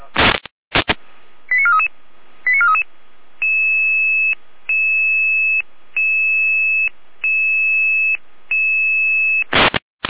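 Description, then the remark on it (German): Radio dispatch alerting tones for a follow-up emergency alarm in Schwarzburg: a crackle of static, a few quick chirping beeps, then a loud series of steady, evenly spaced electronic tone pulses, ending in another burst of static. No voices. “Es ist 15.17 Uhr, Leitschiene Ende. Leitschiene mit Folgealarmierung.”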